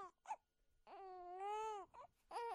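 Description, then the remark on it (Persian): A newborn baby cries in short broken bursts, then one long, strained wail, followed by a couple more sharp cries, coming from inside a house. No one speaks. “صدای نوزاد بود.”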